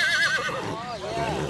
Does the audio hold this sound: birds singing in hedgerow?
no